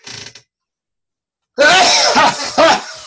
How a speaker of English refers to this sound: Is that sneezing in tongues? Absolutely.